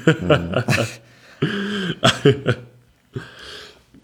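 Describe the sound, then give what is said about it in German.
A run of harsh, rasping coughs comes in uneven bursts, mixed with throaty, strained vocal sounds and short pauses between fits. The coughing is fairly loud and no one speaks. “Boah, Alter, ich bring den Husten nicht weg.”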